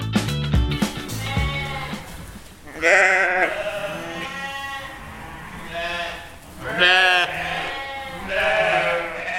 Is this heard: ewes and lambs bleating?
yes